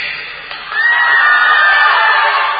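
A crowd of high-pitched female voices shrieks and cheers together, swelling suddenly after a brief lull into a sustained, loud, excited roar that holds for a couple of seconds.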